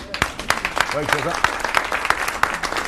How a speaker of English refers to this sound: So it was a very, good thing that we got it. Yeah. That's worth a round of applause, isn't it?